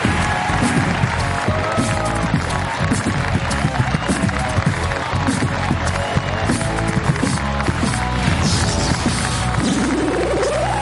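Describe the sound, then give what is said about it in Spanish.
Loud, continuous applause and cheering from the large audience of the Movistar Plus show La Resistencia for Jorge Ponce and Ale Pinacho as the show goes to an ad break, dense and steady, with music playing underneath. “Pues un aplauso para Jorge Ponce, para Ale Pinacho.”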